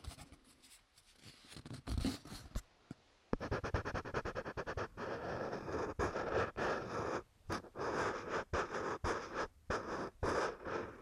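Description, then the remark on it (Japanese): A colored pencil scratches steadily across a shikishi, a stiff square autograph paper board, in quick back-and-forth strokes, a dry, gritty rasp with brief pauses between bursts of coloring, no voices present. “私がね、よく色紙のサインをしているので、それでね、この色塗りの音とかを配信してるんですよね。”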